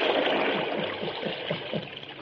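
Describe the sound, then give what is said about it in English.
Water is turned into a well to drown a masked man in a Lone Ranger radio story, pouring steadily as a continuous rushing wash with repeated hollow gurgles and splashes bubbling up underneath, moderately loud. “It is a shame to drown a man with a mask on. Turn the water into the well.”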